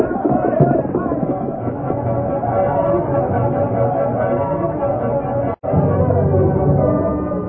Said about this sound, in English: As the Lone Ranger and Tonto approached the edge of town, they heard distant shouting. Something's happened, Tonto. Ah, look like crowd in front of Longhorn Cafe.